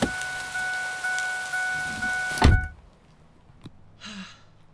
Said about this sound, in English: Jeez. Why does it have to rain so hard all the time?